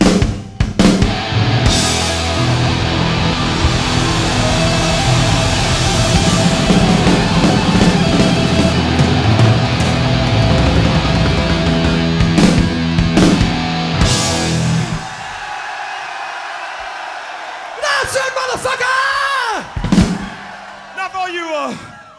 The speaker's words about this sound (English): And this time I want you to really fucking scream so they can pick it up in the studio upstairs.